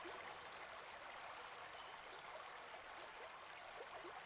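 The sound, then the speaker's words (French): A stream flows continuously with a soft, steady rush of water and small gurgles and trickles rippling through it, holding an even level throughout with no voices. “Le chant des oiseaux, le mouvement du ruisseau, la danse des éléments, cette musique naturelle exprime la vitalité du monde.”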